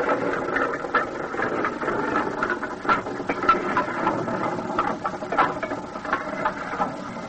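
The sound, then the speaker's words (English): A rotary well drill runs steadily at a drilling camp on an island in the Bayou Chupique, drilling toward the cap rock over a sulfur bed as 8-inch pipe is run down. It makes a dense mechanical clatter and grinding, with irregular ratcheting knocks and metallic ticks layered over a continuous engine-like drone, with no voices. “And soon the sound of our rotary drill broke the deadly silence of the Bayou Chupique.”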